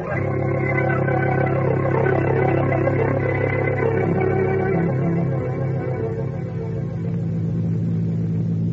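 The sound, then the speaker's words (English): A taxi's engine drones steadily at a loud, constant level, with low rumbling harmonics shifting slightly as it drives outside the city limits, tailing a black car. No one speaks. “Follow that black car.”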